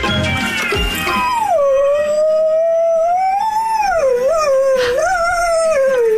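A dog howls along to music, one long, loud, wavering cry that rises and dips in pitch for several seconds, close up, with the song playing underneath.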